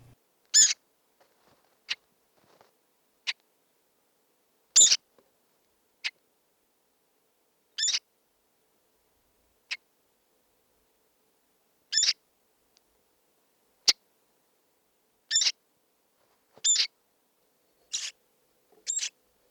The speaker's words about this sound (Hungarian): Tollasodó fiókájának eleségkérő és irányjelző hangja jellegzetes.